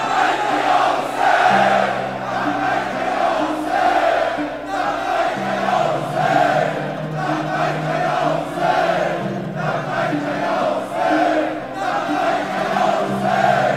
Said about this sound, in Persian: به عشق همه شهدا، به عشق حاج قاسم عزیز، بلند و یک صدا فریاد بزن لبیک یا حسین.